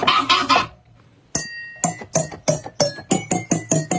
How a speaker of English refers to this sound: and then he records the sound of a fork banging on a glass, and he uses that as the key.